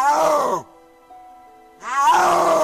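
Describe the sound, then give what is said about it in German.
A snow leopard's mating call: two loud, drawn-out moaning wails with a rough, harmonic tone, separated by a pause of about a second where only faint steady hum remains. “Und so klingt der Brunftschrei eines Schneeleoparden.”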